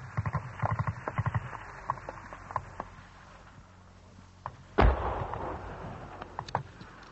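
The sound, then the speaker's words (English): Sharp bursts of incoming gunfire from Argentine batteries around Stanley crackle in quick clusters, followed by a heavy, booming artillery blast near the middle, with scattered shots continuing over a rumbling battlefield background. “More incoming gunfire from Argentine batteries around Stanley, keeping everybody's heads down.”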